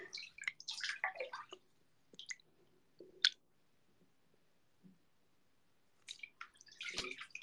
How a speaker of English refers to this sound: My tummy just made a noise.